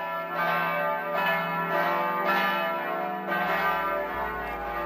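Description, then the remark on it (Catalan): Church bells ring out from a bell tower in a steady, rhythmic peal, loud and resonant, with overlapping tones sustaining throughout and no voices present. “Sonen les campanes del campanar anunciant una notícia realment impactant que ha fet córrer rius de tinta arreu del món.”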